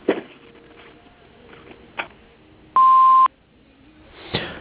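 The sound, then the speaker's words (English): A single steady electronic beep from an answering machine sounds for about half a second, loud and clear, with faint clicks and handling noises before and after it. “Please leave your name and telephone number after the beep, and I will return your call as soon as possible.”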